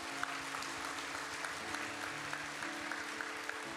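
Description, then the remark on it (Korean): An audience claps steadily for two newly ordained pastors at a church, many hands blending into a dense, even wash of applause that holds at a moderate level for the whole stretch without voices standing out. “우리 두 분 목사님에게 한번 열심히 잘 섬겨보라고 박수 한번 드리겠습니다.”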